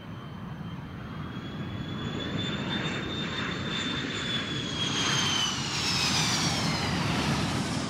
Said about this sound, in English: But my impression here in Washington is that one hears the planes a great deal. I heard them last night in the concert.